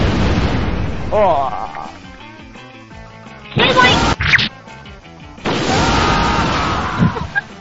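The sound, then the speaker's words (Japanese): Cannon fire sound effect, recorded with several people firing cannons at a ship: two sharp blasts in quick succession, followed by a longer roaring burst, with people talking and reacting before and between the shots. “あ、みんな、砲撃。チュドーン。”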